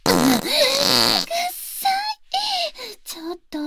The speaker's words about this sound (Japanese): 匂い嗅いでる時におならしないでよ。 どう、香ばしい香りだったでしょ。